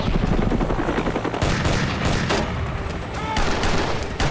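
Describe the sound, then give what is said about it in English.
A dense burst of gunfire from a Starkwood operative crackles over a steady, loud helicopter drone, with sharp shots and short volleys punctuating the continuous rotor roar. “Larry is gunned down by the Starkwood operative.”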